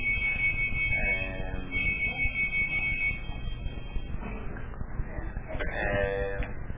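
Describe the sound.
Bells ring steadily throughout, a sustained high metallic tone that swells at moments, over a low murmur of voices and background rumble.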